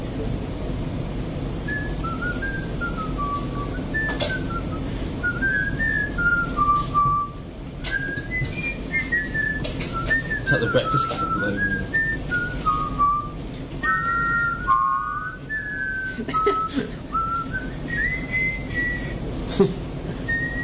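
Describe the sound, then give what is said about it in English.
Someone whistles the Tetris theme tune, a bright melody of quick stepping notes that carries on for about twenty seconds over a steady, hissy background. “would you please explain why we just played Tetris theme?”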